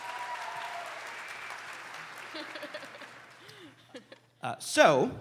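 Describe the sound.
An audience claps steadily for several seconds, a dense wash of applause that gradually thins and fades out, and then someone starts speaking loudly and close by.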